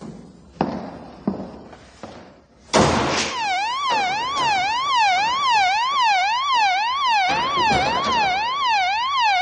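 A few dull thuds, then a loud alarm bell suddenly starts and keeps sounding, its tone rapidly warbling up and down without a break, as someone tries a door to test the alarm system. Nobody speaks.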